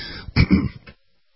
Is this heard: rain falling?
no